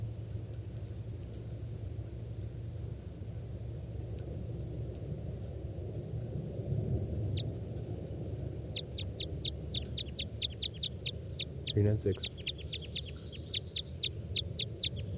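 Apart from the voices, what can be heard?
bird call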